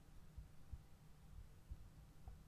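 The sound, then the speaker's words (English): A muffled, racing heartbeat thuds steadily in low, paired beats, quiet, over a soft droning hum with no voices. “Can you feel my heartbeat racing against you?”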